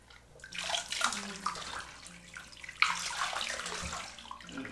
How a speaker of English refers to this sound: Hot water running down my back.